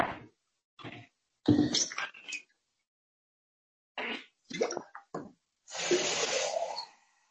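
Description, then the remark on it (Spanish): Water is poured into a container to refill it, a sustained splashing stream near the end, after several short clunks and bumps of handling. No one speaks. “Echarle una ojeadita mientras yo voy a repostar agua.”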